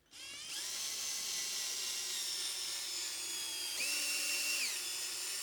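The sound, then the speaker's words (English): An old power drill whirs steadily, its motor holding a high harmonic whine with a brief change in pitch partway through, running continuously with no voices. “This is my old drill. This is my old boring drill.”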